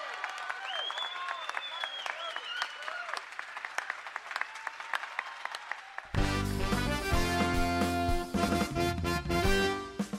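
An audience applauds the makers of eco-friendly products who sponsor the show, steady, dense applause with a few high whoops over it; after about six seconds loud, full music cuts in abruptly and covers the clapping.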